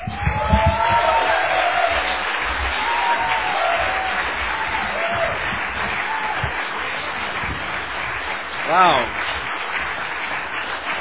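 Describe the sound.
A crowd applauds and cheers as a guest speaker takes the microphone, dense clapping mixed with scattered cheers and whoops, with one shrill cheer rising above the rest near the end. A single voice speaks briefly over it.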